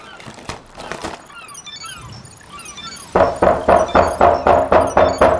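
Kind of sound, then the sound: impact, knocking on a door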